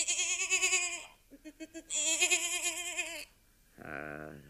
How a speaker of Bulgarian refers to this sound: О, ти си хванал козле? Не, не, не го души. Ще го приберем. Ще го опитомим.